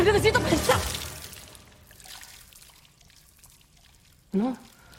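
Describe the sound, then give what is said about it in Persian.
A sudden gush of fluid splashes and pours as a pregnant woman's waters break, tapering off into a fading trickle over a couple of seconds, with brief voice sounds at the start and another short vocal burst near the end. “کیسه ی آبش پاره شد.”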